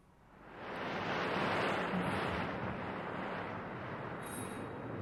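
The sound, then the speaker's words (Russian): A heavy, roaring hurricane of wind, thunder and crashing surf as the sea foams and overflows its shores swells up within a second and holds as a loud, dense, continuous rush. No one speaks. “В это время поднялся страшный ураган. Море вспенилось и вышло из берегов. Раздался грохот”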